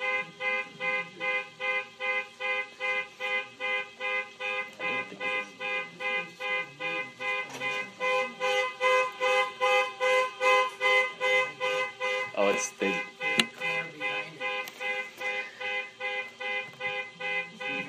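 A car horn honks over and over in a steady, rapid rhythm, loud, right outside the window, with the blaring pulses continuing without a break for the whole stretch.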